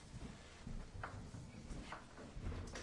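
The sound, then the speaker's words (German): A door handle is tried several times, giving short metallic clunks and low rattles against a locked door, with no one speaking. “Du kannst es ja mal austesten. Die Tür ist abgeschlossen.”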